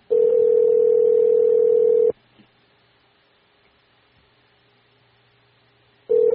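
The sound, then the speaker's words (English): A phone ringback tone while calling the speaker's mother: a steady, loud electronic buzz lasting about two seconds, then four seconds of near silence, then the tone starting again while the call waits to be answered. “If she will answer her phone. I don't know if she'll answer it or not.”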